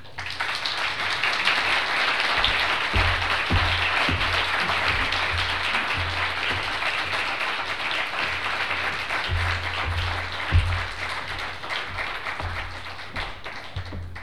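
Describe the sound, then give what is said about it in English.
A crowd applauds steadily for about fourteen seconds, a dense, crackling wash of many hands clapping at once with no voices, holding fairly even loudness before easing slightly at the end. “Can we get another round of applause for her?”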